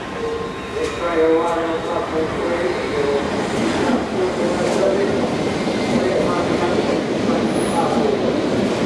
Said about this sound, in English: Please mind the gap between the train and the platform. This is Tower Hill. The next station is Aldgate. This is a Circle Line train via Liverpool Street and King's Cross and Pancras.